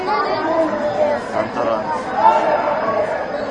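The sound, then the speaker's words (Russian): A steady, overlapping babble of children's voices calling and shouting in the background, continuous for the whole moment with no single voice standing out. “вот здесь вот дети, ребятишки, там что-то кричат, и вы что-то говорите.”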